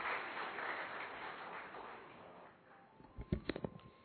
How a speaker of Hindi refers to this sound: जोरदार तालियां आप सब की तरफ से।